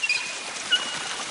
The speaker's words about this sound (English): Twice that now, 12 gallons of water have gone right down the drain.